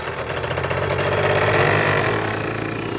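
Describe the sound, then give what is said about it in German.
Motorcycle engines rev loudly as the motorcycles are ridden through a quiet forest in a Bibi und Tina story. The engines make a steady, throaty drone, the pitch climbing and swelling midway before easing back down, with no voices. “Ich denke, Bibi und Tina haben dir beigebracht, dass man mit aufgedrehten Motorrädern nicht durch den ruhigen Forst fährt.”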